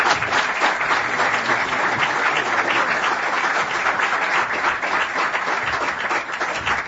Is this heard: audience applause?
yes